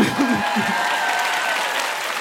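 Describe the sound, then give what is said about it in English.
Steady applause from a crowd, a dense, even wash of many hands clapping at once, loud and sustained throughout, with a few brief low vocal sounds at the very start. “I also love applause.”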